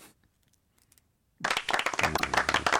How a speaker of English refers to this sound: 20, round of applause for me.